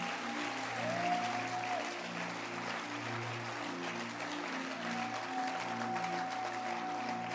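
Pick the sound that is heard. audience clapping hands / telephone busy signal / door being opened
audience clapping hands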